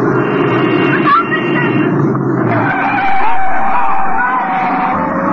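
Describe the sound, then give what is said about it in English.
A car zigzagging from side to side swerves and runs right over the curb at a street corner, with a loud, sustained screech of skidding tyres and engine roar lasting about five seconds, with faint shouts from a crowd mixed in. “The car went right over the curb.”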